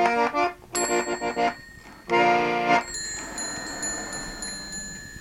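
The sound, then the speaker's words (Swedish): A mechanical roll-playing instrument with bells, nicknamed a typewriter, plays notes in short bursts, then a small bell rings repeatedly in a quick, even series of bright, high pings as the roll ends, over a lingering faint tone. “Det ringer ju när valsen har slut, sa.”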